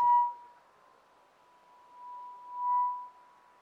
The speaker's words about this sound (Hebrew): למה זה מצפצף כל הזמן?